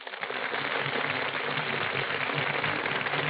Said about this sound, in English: That burst of applause, ladies and gentlemen, is for Brian Ahern and Joan Fontaine, who are just entering our Gulf Theater stage.